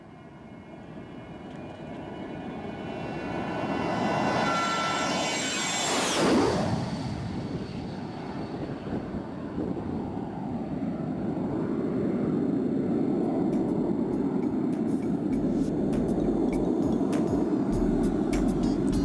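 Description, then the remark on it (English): Jet airplane engines roar through a takeoff on a flight to China, a rising whine sweeping up and then dropping as the thrust builds into a loud, steady rumble. “I always let the engines have it when we're taking off, because I'm telling you, those are a whole lot of decibels.”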